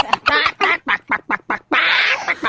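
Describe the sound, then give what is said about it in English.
A person imitates a clucking chicken, loud: a quick run of about eight short, throaty clucks ending in a longer, drawn-out squawk. “That means I'm picking up what you're dropping down in chicken talk, you know.”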